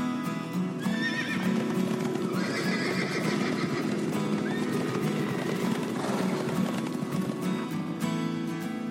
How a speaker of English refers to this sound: What are they? Answer, horses. The horse belongs to the species Equus caballus. It is a hardy, four-legged mammal. Each leg has one toe that is protected by a hard covering called a hoof, which is a lot like a really thick toenail.